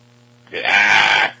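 A single loud, strained human scream lasts just under a second, close and harsh, rising abruptly out of near silence and cutting off cleanly, with no talking around it.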